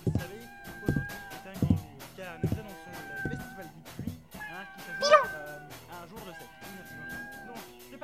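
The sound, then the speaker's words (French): A small toy cat that has been thrown lets out one bright, wavering meow partway through, standing out clearly over steady background music with sustained tones and regular low thumps. “Me cacher et lancer le petit chat miauleur.”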